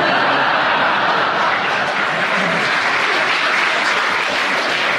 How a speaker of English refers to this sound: So, Marcus, give him a bonus. The audience applauded. Give him a bonus point because they enjoyed the interruption.